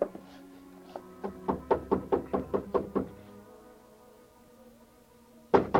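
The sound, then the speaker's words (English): Someone knocks on Carla's apartment door after climbing the stairs: about ten firm raps in a quick, steady run that speeds up slightly. The knocking stops, leaving a quiet pause before another sharp sound at the end. “I paid off the taxi, walked 3 blocks to Carla's apartment house, climbed the stairs, and knocked on her door.”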